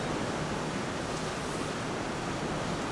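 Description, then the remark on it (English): Heavy rain pours down in a steady, dense hiss that fills the whole clip, constant and fairly loud with no breaks or voices. “I hope you could hear me over the rain.”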